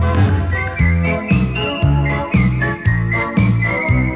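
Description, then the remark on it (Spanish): A bright whistled melody glides and wavers over a backing track with a steady, thumping bass beat, with no one talking. “Silbar es solo aire, cosquillas al viento.”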